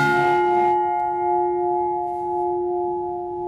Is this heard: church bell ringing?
yes